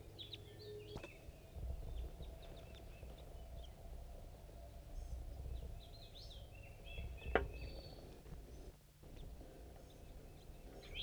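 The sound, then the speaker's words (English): Three birds chitter in short, scattered bursts in a pine tree above a nest site, fairly faint against a steady outdoor background hum, with a few sharper clicks and rustles mixed in. “Birds are chittering above the nest site.”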